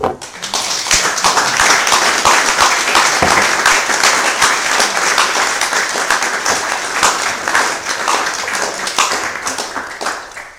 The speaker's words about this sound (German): Sie merken es am Beifall, also ich für meinen Teil, man soll ja immer von sich ausgehen, habe vieles dazu gelernt.